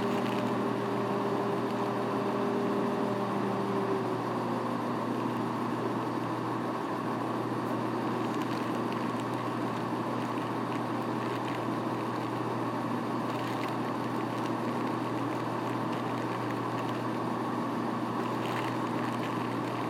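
A diesel passenger train's engine drones steadily, a low humming rumble with a rough, noisy wash on top that holds at a constant level throughout, with no voices.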